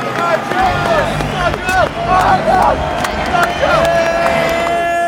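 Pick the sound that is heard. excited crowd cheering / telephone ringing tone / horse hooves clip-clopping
excited crowd cheering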